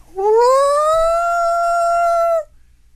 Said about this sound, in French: Et là, ça repart. Mais la même affaire. Le loup en arrière du chalet qui parle.